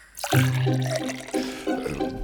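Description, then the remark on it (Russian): Water is poured into a glass for someone to drink, in a steady stream for a couple of seconds, with a gurgling, ringing tone that wavers as the glass fills. No voices are heard. “На, выпей воды.”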